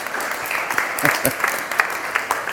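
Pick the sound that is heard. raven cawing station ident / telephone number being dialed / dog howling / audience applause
audience applause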